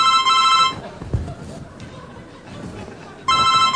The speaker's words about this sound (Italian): Ci fate sentire la suoneria del vostro telefonino?